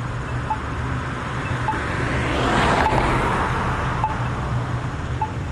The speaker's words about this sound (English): Sounds like there's a train down there.